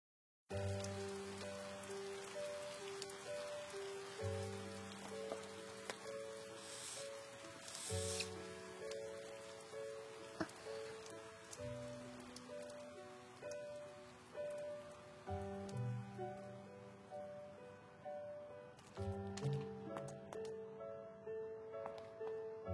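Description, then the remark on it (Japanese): Steady rain pattering on a surface as a continuous hiss, with soft sustained music tones underneath and no one speaking. “雨、やっと止んだね。”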